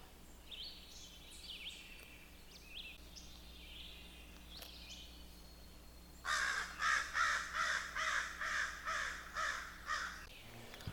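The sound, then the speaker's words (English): A family group of crows or jays on a trail calls a rapid, steady series of about nine harsh, raspy, loud caws, after a stretch of faint birdsong. “Of course, crows, ravens, blue jays, gray jays, they're all closely related.”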